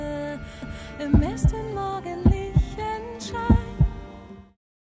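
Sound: heartbeat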